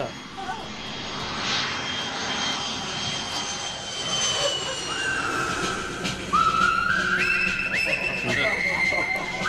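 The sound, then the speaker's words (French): A jet airplane engine roars steadily, its high whine climbing in pitch in stepped surges as it spools up, loud, with muffled voices faintly underneath. “Allez hop, prends ma valise, nous avons un avion à prendre.”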